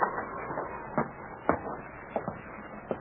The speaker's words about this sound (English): The Mountie stood knocking on the door of the cabin, the light from the window shining through the falling snow. He waited for an answer.